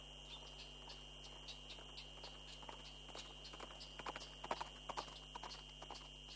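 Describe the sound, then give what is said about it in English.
A horse's hooves clip-clop in a steady walking rhythm, soft, growing a little louder midway, over a constant low electrical-sounding hum with no one talking. A hired horse is being ridden around Nero Lake in cold weather. “Here you can hire a horse and go horseback riding around the lake.”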